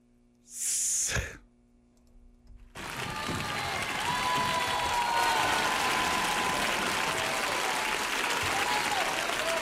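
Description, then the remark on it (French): A short, breathy burst is followed by a pause, then a crowd breaks into loud, steady applause, dense clapping that holds at full strength until the end. “Moi, je suis pas dans l'applaudissement, je suis plus dans.”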